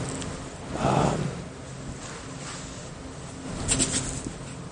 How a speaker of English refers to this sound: Deep in the mountains, no song of birds close to what we knew at home, just the spine-tingling hoots of owls in the night.